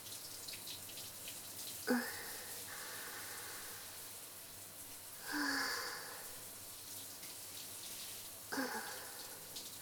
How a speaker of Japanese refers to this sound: シャワーあったかいです。プールで全身冷えちゃってましたから落ち着きますね。ほら先輩も温水シャワー浴びてください。気持ちいいですね。